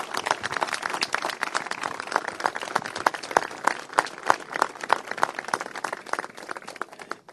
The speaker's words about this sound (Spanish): Por eso quiero, le daría un fuerte aplauso a la Asociación de Vecinos.